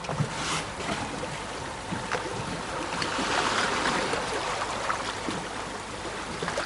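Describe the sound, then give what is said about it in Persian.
Oars splash and churn through water in a steady, continuous wash as the boat moves along, with brief brighter splashes breaking through at irregular moments; moderately loud, no voices. “پاروها داخل آب.”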